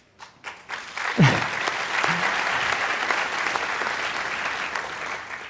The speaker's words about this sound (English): Yeah, they deserve the applause.